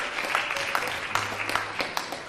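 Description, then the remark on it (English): A church audience claps in praise, steadily, a dense wash of overlapping handclaps with a few sharper individual claps standing out, moderately loud throughout the short burst. “And if you got him, you can give him a hand clap of praise if you got him.”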